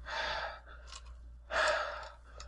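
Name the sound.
imitated heavy breathing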